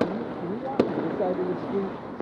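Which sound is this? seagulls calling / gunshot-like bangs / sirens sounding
gunshot-like bangs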